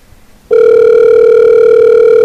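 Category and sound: signal or alarm, telephone ringing unanswered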